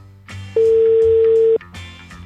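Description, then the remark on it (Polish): A single steady telephone ringing tone, one loud, even, mid-pitched beep lasting about a second, sounding over a backdrop of music, as the Radio SK Łódź show Bal czy Szmal phones a restaurant owner. “Trzeba do niego zadzwonić, no i sprawdzić, co tam się wydarzyło złego.”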